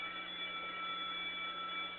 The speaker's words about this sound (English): Take the school bells with me. School bells is ringing, and as you hear it, it's true.